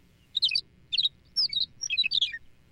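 A Thick-billed Longspur, formerly called McCown's Longspur, sings a run of bright, high twittering phrases in four or five quick bursts with short gaps between them, clear over a faint low rumble and no voices.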